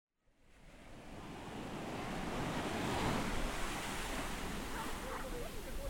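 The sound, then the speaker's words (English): Ocean waves wash in a steady, broad roar of surf that swells gradually after a brief silent start, with no voices, just continuous rushing water and a hint of wind. “Anyways, with that, here is Sounds of the Sea.”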